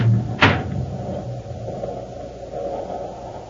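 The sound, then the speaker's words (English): A single sharp clunk of a locked door being tried and rattled by someone hurrying to get out, followed by a steady low rumbling hum with no voices. “Open the door, hurry. It's locked, sir.”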